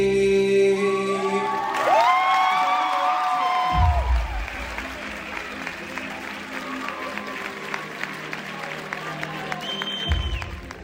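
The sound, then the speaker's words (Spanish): A concert crowd at a rapper's concert at the Universidad Miguel Hernández de Elche applauds and cheers continuously, with high whoops and shouted voices rising over a dense wash of clapping that holds steady loud throughout. “Esos y muchos más aplausos fueron para el rapero en su concierto aquí en la Universidad Miguel Hernández de Elche.”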